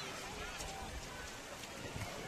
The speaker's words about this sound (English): And if you're us, the umbrella goes back up. Yep, I hear the rain coming down on the poncho again here.